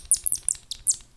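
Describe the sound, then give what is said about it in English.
A rat squeaks happily in a quick run of about six high, thin chirps, fairly clear, with no voices. “This is the sound of a happy rat.”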